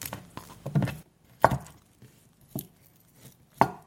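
Soft boiled potatoes being smashed flat with the back of a glass before going in the oven: a cluster of quick dull thuds, then three heavier squashing knocks spaced about a second apart. No one speaks.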